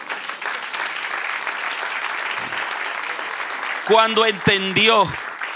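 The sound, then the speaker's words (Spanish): An audience claps steadily in a dense, sustained wash of applause, and a man's voice begins speaking over it toward the end. “Dele un aplauso al que rey.”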